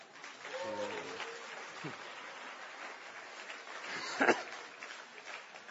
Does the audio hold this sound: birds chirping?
no